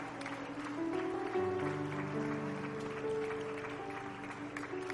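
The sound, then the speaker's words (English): An audience claps hands one more time in praise before being seated, a steady, continuous wash of applause, mixed with sustained organ or keyboard chords that hold throughout. “Would you clap your hands one more time before you're seated?”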